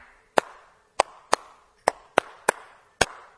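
Seven crisp hand claps alone, tapping out a simple two-bar rhythm as a musical question in a call-and-response exercise, with uneven spacing, each a sharp, bright smack that fades quickly before the next.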